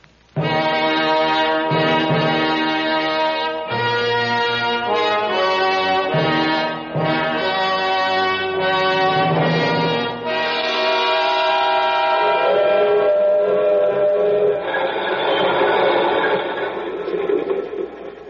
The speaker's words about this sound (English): What are we slowing down for? Why does a freight train always slow down 10 miles from nowhere in the middle of the night?